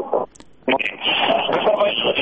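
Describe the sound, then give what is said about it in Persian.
A radio broadcast of Radio Azadi's call-in program with talking voices plays over a narrow, tinny phone line, continuous and slightly distorted, as if a listener calling in has the radio left on by the handset. “صدای رادیوی خود را هم پخش بکنین تا صدای شما را درست ما بشنویم.”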